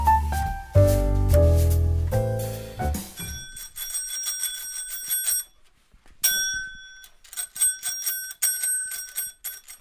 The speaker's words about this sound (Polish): To jest rower, który ma dzwoneczek z takim grawerunkiem, ja go zaraz tu wyprowadzę stąd. I to jest rower, który ma blisko 100 lat, przywieziony z Włoch.